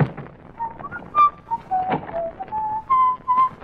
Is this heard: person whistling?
yes